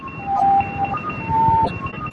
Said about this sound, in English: There's the ones that transmit in Morse.